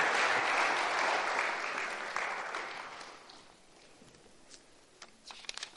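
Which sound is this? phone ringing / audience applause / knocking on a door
audience applause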